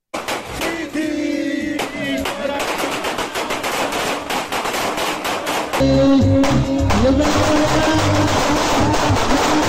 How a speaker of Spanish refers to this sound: Bueno, es inaceptable que policías, ¿no? Efectivos de la Policía Nacional del Perú realicen esta actividad, que disparen al aire durante un velorio.